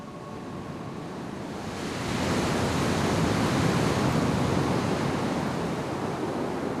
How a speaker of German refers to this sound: Das Meer, das noch da ist, schäumt und tobt wie wild. Und da drin müssen jetzt mit Pauken und Trompeten die Feinde ertrinken. jetzt macht das Orchester richtige Meereswellen und das wilde Wasser donnert und grollt.